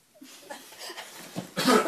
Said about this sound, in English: No, sorry, I was coughing myself. I didn't want to interrupt you.